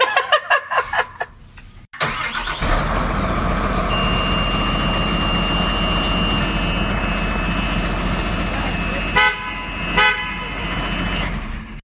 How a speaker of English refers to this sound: Honking the horn was really fun, but this is a serious truck with a serious purpose.